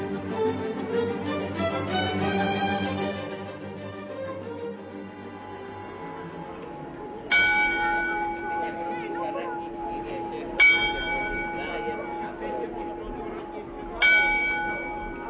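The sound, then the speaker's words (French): The astronomical clock with a hop motif at the temple of beer and hops in Žatec (Jatec), Czech Republic, chimes the hour: a fuller blended ringing fades out, then three loud, evenly spaced bell strikes follow, each a bright metallic clang with a long humming decay. “De même que l'horloge de la vieille ville de Prague, celle de Jatec, sonne toutes les heures.”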